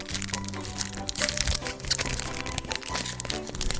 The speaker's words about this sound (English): Peeling back some plastic. These five-card packs.